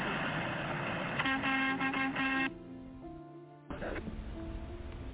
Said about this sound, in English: A honk for my 5-year-old son. He's a little shy. He just got home from school, and he's very excited to watch the truckers come through. Renfrew, Ontario. Can I get a honk for my 5-year-old?